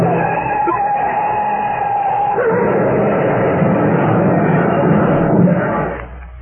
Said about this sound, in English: He realized he either had to run over that child or swerve into the brick wall at the side of the track. Instantly, Eddie made his choice. He swerved his car, and he crashed into the brick wall.